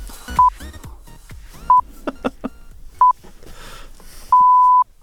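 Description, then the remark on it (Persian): Three short, evenly spaced electronic beeps at the same mid-high pitch, followed by a longer sustained final beep, like time-signal pips, sounding over a busy, clattering background. “آقا تعطیل کن بریم، برو بوغ آخر رو بزن، بگو بچه بیان خبر بخونه.”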